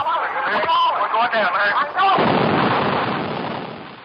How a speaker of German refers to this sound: Und der sagt, ich weiß. Und dann knallt es einfach auf die Brücke.